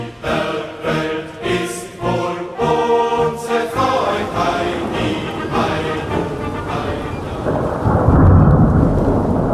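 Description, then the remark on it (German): A thunderstorm with rumbling thunder and a steady wash of wind and rain, tonal layers sounding through the first half before a heavier, louder surge of thunder near the end. “Grelle Blitzer, Donner, Sturmböen, Peitschen und Soldaten platschen es.”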